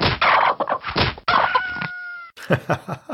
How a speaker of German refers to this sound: Ey, die Hühner.